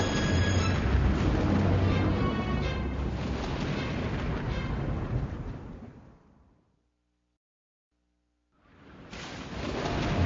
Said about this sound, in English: The clouds move over the house, and lightning flashes all around. Lightning flashes all around, and thunder crashes loudly.